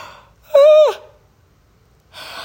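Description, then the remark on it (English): A single loud yawn: a brief breathy intake swells into a voiced, tonal groan that drops in pitch at the end, followed by quiet, then another soft breath. “Excuse me. I had to yawn.”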